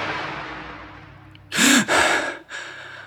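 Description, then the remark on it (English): After a fading rush of noise, a loud, sharp gasp bursts out with a voiced catch as someone wakes and sits up, followed by a heavy breath and a softer, shakier exhale. “I sit up with a gasp.”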